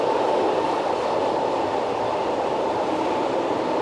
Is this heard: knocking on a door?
no